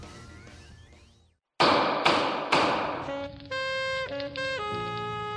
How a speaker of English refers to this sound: Man, Judge Hodgman, you're really getting in there on repairing that, what's that called? Hover chair.